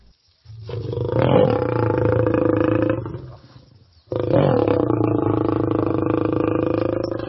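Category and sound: animal, lion growling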